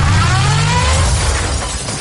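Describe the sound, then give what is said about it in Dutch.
A new car's engine revs, then a loud crash with scattering, shattering debris as the car reverses into something. No one speaks. “Oh, ja, hij stond nog eens achteruit. Dat is niet zo slim.”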